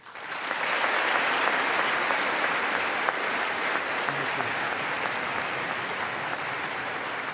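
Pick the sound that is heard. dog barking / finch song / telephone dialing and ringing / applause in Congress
applause in Congress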